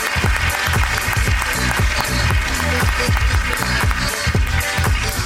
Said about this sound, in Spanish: Bueno, pues me gustaría que recibierais con un gran aplauso a un...